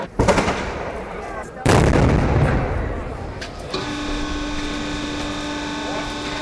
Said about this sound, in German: Elf Uhr, zwei Böllerschüsse und das Haus fährt ab.